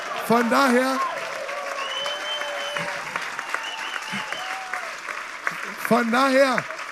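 A crowd applauds steadily throughout, a dense continuous patter of clapping, with loud cheers and whoops rising near the start and again near the end.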